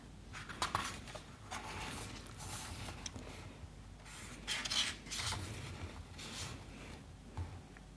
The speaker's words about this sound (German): Und jetzt muss ich wieder ein bisschen blättern.